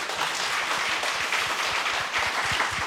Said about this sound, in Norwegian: Og på scenen nå har vi fått Preben Aavitsland. Gi ham en god applaus.